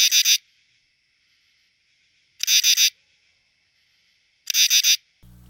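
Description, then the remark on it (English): A katydid sings at night in loud, raspy bursts of three or four quick pulses, repeating roughly every two seconds with quiet gaps between. The calls sound clear, with no other sounds around them. “The katydid sings later in the summer, often at night, and the frequency of its call decreases with falling evening temperatures.”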